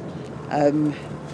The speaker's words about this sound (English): I hope this boo's okay, because the bus is quite noisy, but I wanted to do it on the bus. You can capture the sound. Just coming into Lewisham.